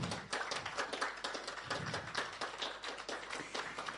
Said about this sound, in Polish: Zapraszam również do naszego stołu Sanala Edamaruku. Oklaski.